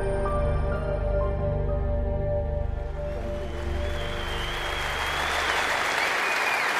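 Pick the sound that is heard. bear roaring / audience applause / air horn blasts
audience applause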